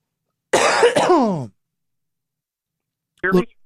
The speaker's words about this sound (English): I had to take a little cough break there.